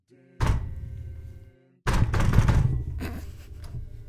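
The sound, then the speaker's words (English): Heavy thuds of a hand banging on a desk: one solid hit, a brief pause, then a louder burst of pounding that rumbles on and slowly fades, with a low hum underneath. “There's me banging my desk.”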